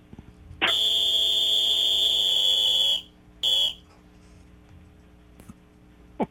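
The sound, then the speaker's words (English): A loud, high-pitched electronic buzzer, used as a warning when a panel member gets out of bounds, blares steadily for over two seconds, stops, then sounds again in one short burst. No voices are heard over it. “Yes, it's a like a mosquito on steroids.”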